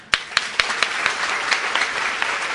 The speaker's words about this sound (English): Now we all of us have got 2 hands. Please clap.